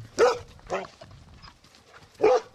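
Labrador dogs, F1 hybrids kept by a dog breeder in County Wexford, barking in short, sharp bursts: two quick barks close together, a pause with faint background murmur, then one more bark. Loud.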